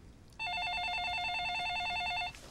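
A telephone rings with a single loud burst of rapid electronic warbling trill lasting about two seconds, then cuts off, with no voices over it.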